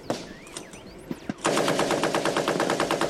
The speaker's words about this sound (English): We were just driving along the ridge and came under fire and had to get out of the car. The Taliban were in these trenches about half an hour ago. And now we're in them. They're firing at us.